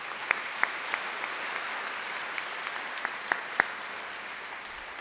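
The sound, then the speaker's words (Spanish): Applause from an audience, given for people who have been able to rectify their own life stories: a steady, dense wash of clapping with several sharper individual claps standing out, holding at a moderate level for about five seconds with no voices. “Démosle un aplauso a esas personas.”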